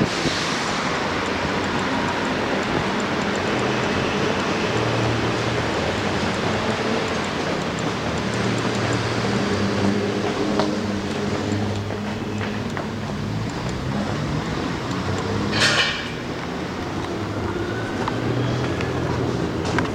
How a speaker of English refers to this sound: Subway, street noises obviously, people waiting for buses, walking on the sidewalk, not too many people. Oh, the subway entrance.